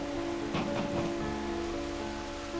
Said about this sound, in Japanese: 戸をたたく風の音と雨の音とはいつまでも衰えませんでした